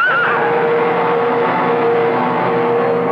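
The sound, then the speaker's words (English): A horse lets out a loud, drawn-out whinny as it slips on an icy patch on the road and goes down with its rider, its pitch wavering briefly at the start before holding steady for a few seconds, with no voices. “With a slithering crash, horse and rider went down.”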